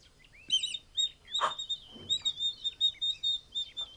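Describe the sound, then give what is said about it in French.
A bird chirps repeatedly in quick, bright bursts, a steady string of high tweets and trills, with soft background rustling and no talking. “ça a recommencé, encore un oiseau!”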